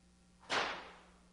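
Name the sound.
whip crack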